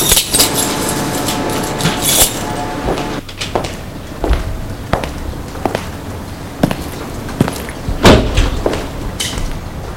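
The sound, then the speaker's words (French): A wooden side door is unlocked with a key and opened: a series of sharp clicks and knocks from the lock and latch, followed by creaks and a thud as the door swings, with no voices. “Tourne le perron et va à droite pour entrer par une porte latérale, une porte de bois. Il a la clé. Ouvre la porte.”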